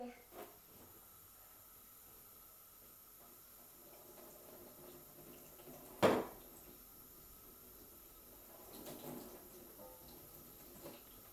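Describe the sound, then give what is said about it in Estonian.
Water runs from a tap in a steady, soft hiss, broken by a single sharp knock partway through and a brief swell of splashing near the end, with faint voices in the background. “Ma lasen sulle vett.”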